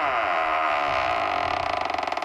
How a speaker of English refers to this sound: Let's open up the vault door.